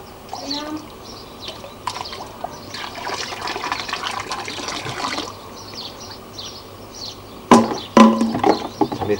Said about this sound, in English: Are you playing with the water? With the agua? Are you playing with the agua?